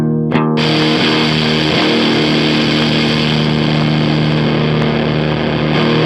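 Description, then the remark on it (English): A loud, continuous distorted tone with harsh asymmetrical clipping, full of fizzy crackle like an egg frying, steady throughout after a brief sweep at the start, with no voices. “Yeah, exactly, and it'll get worse when you, like, I was on the no clipping, and here's like the asymmetrical setting, I think.”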